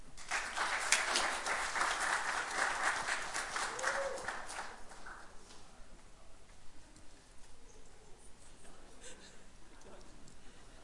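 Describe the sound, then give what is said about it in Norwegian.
A burst of audience applause, dense crackling claps for about five seconds that then thin out and fade into scattered claps and low murmuring. “Applaus!”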